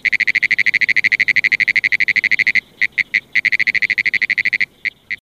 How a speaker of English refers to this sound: The sound of the pinewoods tree frog resembles a ticker tape machine, a riveting machine, or someone tapping at a telegraph key. It's very distinctive and easy to hear over quite a distance.